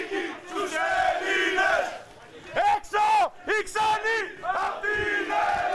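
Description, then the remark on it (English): A crowd of Golden Dawn party members marching in Greece chants loud slogans in unison, such as "Greece is for Greeks" and "Get out, foreigners", rising and falling in rhythmic shouted bursts with brief gaps between phrases, sustained across the whole clip. “Outside, party members marched and shouted, Greece is for Greeks.”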